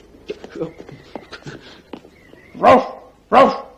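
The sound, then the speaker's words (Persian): People talk for a few seconds, then a dog lets out two loud, sharp barks in quick succession, each one a short harsh burst that stands out well above the voices. “روف روف، من فقط از اردک حمایت کردم چون در وضع خیلی بدی قرار گرفته بود.”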